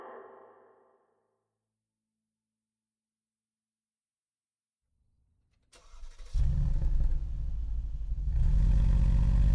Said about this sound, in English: His foot mashed the gas pedal. The car shot forward like a rocket. It hugged the curves of the Pacific Coast Highway as the odometer buried in the red.